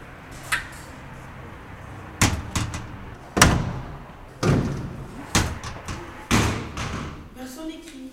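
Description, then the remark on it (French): A door is shut several times in a row as someone goes out and comes back in, each shut landing as a heavy, echoing thud, with a brief murmur of voices toward the end. “Je sors, je rentre? Ouais, comme ça, on en fera le bruit de la porte.”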